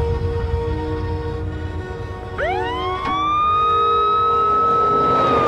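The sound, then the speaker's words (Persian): A police car siren suddenly winds up partway through as the police car stops in front of a man walking in the street, its rising wail climbing and then holding a loud, steady tone over a low rumble of vehicle and street noise. No one speaks. “ماشین پلیس جلوش میسته، اون میترسه و از کنار ماشین پلیس رد میشه.”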